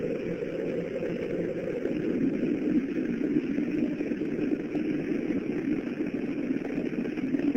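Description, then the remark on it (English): A deep, continuous roar of the Space Shuttle Challenger's three main engines after liftoff on the 25th Space Shuttle mission, throttling down to 94%. A steady low rumble holds an even loudness throughout, with no voices. “Engine's beginning throttling down now at 94%.”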